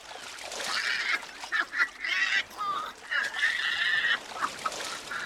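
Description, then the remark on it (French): A bird squawks loudly and repeatedly, harsh honking calls in quick irregular bursts, dominating the scene with no one talking. “Con d'oiseau!”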